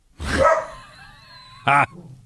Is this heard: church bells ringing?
no